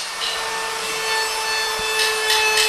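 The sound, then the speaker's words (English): Construction work on a Habitat home, with a hand saw rasping through wood in repeated strokes, growing more rhythmic toward the end, over a steady background hum. Nobody speaks. “Most of the hammering that goes into a Habitat home is done by volunteers.”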